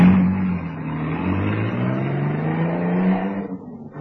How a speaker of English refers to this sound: and then got into the car, which roared away.